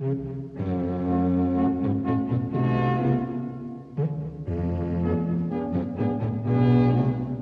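A bass pipe sounds deep, sustained low notes with a rich, buzzy tone, playing a slow phrase that pauses briefly midway before continuing, steady and fairly loud with no voices.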